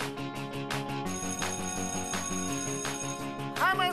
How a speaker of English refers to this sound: That's the school bell. It's time for us to go back to school.